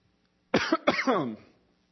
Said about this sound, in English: Y'all got coughing problems, excuse me.